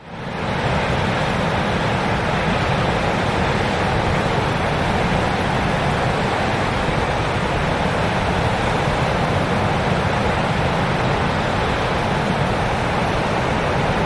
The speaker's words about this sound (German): Dann ja. nehme ich jetzt mal das Meeresrauschen. Nummer 10.